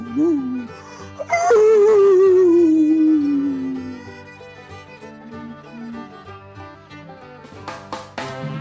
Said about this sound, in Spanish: Llora el lobo. ¿Está emocionado el lobo? Está. ¿Cómo serán las emociones de un lobo?